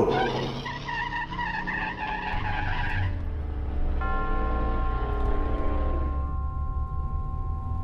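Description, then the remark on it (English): A car engine revs and strains as tires squeal and skid on the road surface while the car gets back on the road after stopping at a detour, the motor's steady drone continuing loud after the screech fades. “After I got the car back on the road again, I felt like a fool.”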